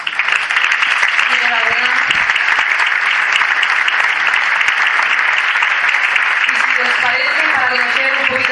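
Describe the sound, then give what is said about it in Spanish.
Steady, loud audience applause fills the whole stretch, a dense wash of clapping hands from a large crowd, with faint voices and cheers mixed in near the end, at an award ceremony in Totana as Industrias Bigma receives a first prize for its trajectory as a family business. “Un fuerte aplauso.”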